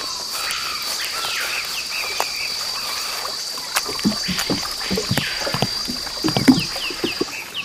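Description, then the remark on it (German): Paddle strokes from a dugout canoe heading to a village splash and slosh through water at an irregular pace, growing busier toward the end, over a steady background of chirping insects, frogs and rainforest calls. “Dann können wir ja los und mit meinem Einbaumboot zum Dorf fahren.”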